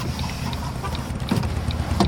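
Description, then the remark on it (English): A motorbike engine rumbles low and steady in traffic, swelling slightly louder toward the end as it draws nearer, with a few faint clicks over the drone and no voices. “That's just a motorbike.”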